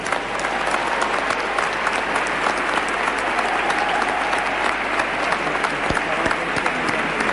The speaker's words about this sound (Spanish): Pues aplaudimos a todos los jóvenes que trabajéis en la pastora juvenil.